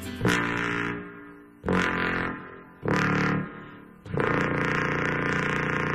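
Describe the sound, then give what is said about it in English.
Four loud, sustained notes on a contrabass trombone, played to see how low the instrument can go, each deep and buzzy with rich overtones, played one after another with short breaks between them and the last held longest. “But what's fun on the contra is really, you know, seeing how low you can really go.”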